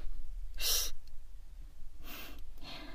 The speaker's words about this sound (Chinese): 在图书馆睡觉就算了，可是你不能打呼噜呀。